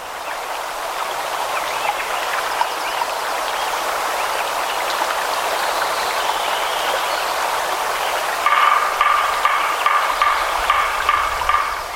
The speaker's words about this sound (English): 1 year later, after the logging operation was complete, all you can hear is the sound of a stream and a woodpecker.